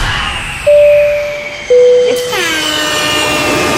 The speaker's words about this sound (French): Si on entend un bruit d'avion qui décolle, c'est que c'est bon pour vous. On écoute.